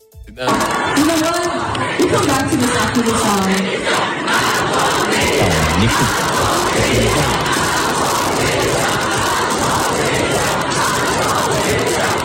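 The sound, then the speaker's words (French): A large, young crowd at an indie pop concert chants the slogan "Macron démission" in unison, loud and dense, with shouting voices rising together over a constant roar of people for the full duration. “On entend bien Macron démission qui monte du public, effectivement.”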